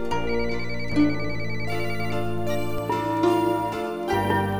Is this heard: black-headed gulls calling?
no